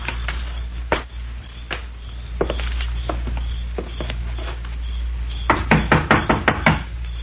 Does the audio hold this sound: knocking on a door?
yes